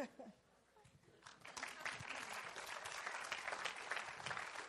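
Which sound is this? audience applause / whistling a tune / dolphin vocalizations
audience applause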